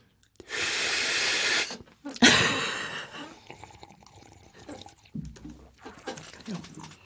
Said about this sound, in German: Da hat doch einer geschlürft, oder habe ich das falsch gehört? Gibt's da wieder einen Schlürfer? Wer war denn das? Ich war das.